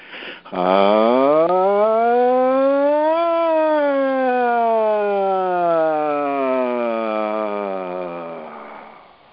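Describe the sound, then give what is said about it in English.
A single voice imitates a siren as a vocal exercise, sliding smoothly upward from low to high for a few seconds, then slowly gliding back down in one long, loud, continuous hum with no other sounds. “Once again, just reminding you what we're doing by doing this sort of siren sound is really just to shake off any debris that's in your auric field, and also, in a sense, prepare each of the chakras for a little bit deeper work”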